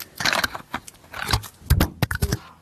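A microphone falls and clatters, a burst of sharp knocks, scrapes and rattling thumps over a couple of seconds, loud and irregular, with no one speaking.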